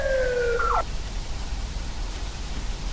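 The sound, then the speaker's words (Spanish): A brief electronic siren sound effect on the radio show Jorge Ramos y su banda holds steady for under a second, then bends downward and cuts off abruptly, leaving only a low background hiss. No one speaks. “otras de sirena, otra más de sirena?”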